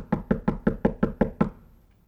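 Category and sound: sound effect, knocking on a door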